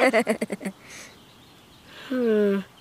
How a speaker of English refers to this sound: Those are wild geese. They're not super squawky, though. They sound more like a dog's chew toy. Or a rubber duck for the bath.